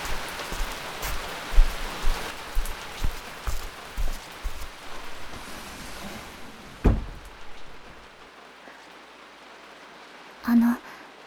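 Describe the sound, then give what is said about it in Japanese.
Steady rain pours down, a dense hiss with scattered louder drops, then stops abruptly after a sharp knock, leaving near silence broken by one brief thud. “雨が降ってきましたので、窓を閉めるようにとお母様が。”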